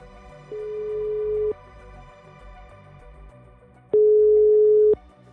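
Two long, steady ringback tones of an outgoing phone call to a police lawyer in the Sør-Øst police district, each about a second, separated by a pause of a few seconds, clear and fairly loud over a faint background hum.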